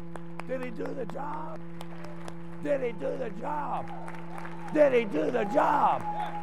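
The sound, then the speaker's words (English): A church audience applauds Jesus during a sermon with steady, moderately loud clapping, while voices shout and call out in rising and falling bursts over a constant low hum. “Applaud him.”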